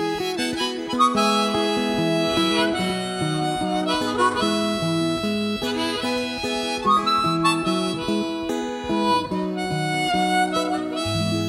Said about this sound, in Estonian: Ja ustava mehe mälestuseks veel mängime suupilli ka natuke.